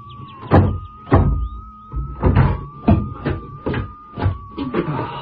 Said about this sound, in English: Door must have got a bit swollen.